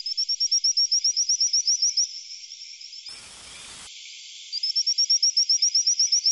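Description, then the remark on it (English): Rapid trains of high-pitched, whistling calls from frogs of newly discovered species in Madagascar, calls likened to sound effects from Star Trek, steady, broken midway by a short hissy lull before the chirping series resumes. No one speaks. “And researchers have discovered 7 new species of frogs in Madagascar, which they say make high-pitched whistling calls like sound effects from a famous sci-fi show.”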